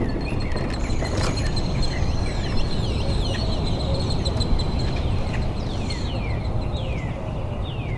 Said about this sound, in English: Does it seem kind of more quiet than usual? Yeah, but it's nice. Hardly any cars, hardly any planes. The birds seem louder, but everything else is eerily still.